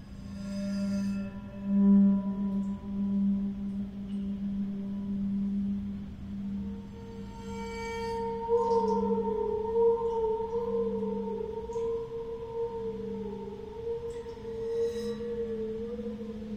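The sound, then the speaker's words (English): A bowed metal instrument, bowed on its bronze rods and tilted so water moves across the bottom resonating plate, sustains an eerie, steady drone while higher tones slowly bend and wobble in pitch as the water shifts, giving a wavering, whale-like sound with no talking. “Now I'm going to bow it again, and this time I'm going to tilt the instrument a little bit, and you'll hear the water move across the bottom resonating plate, which kind of shapes the sound in an interesting way.”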